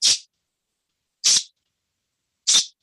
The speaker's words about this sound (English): Before this was available, we'd use the spray cans of air that you clean off your computer keyboard with. Okay, but this is now designed as a sound interrupt for dogs or cats, called a pet corrector. So that's another option.